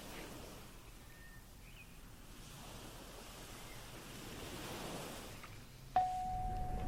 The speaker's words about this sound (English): Now, imagine you're on a beautiful beach. Can you hear the waves?